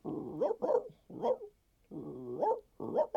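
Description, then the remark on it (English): A human voice imitates a pit bull while warming up in a hotel room, rough growling broken into five loud, gruff barking bursts in a choppy rhythm with short pauses between. “Or a pit bull right in your face.”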